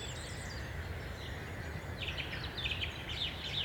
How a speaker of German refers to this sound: Buntspecht, Rotkehlchen, Stieglitz. 16. April, Vogelmonitoring. Erster Stopp am Dorfrand. 18 Arten.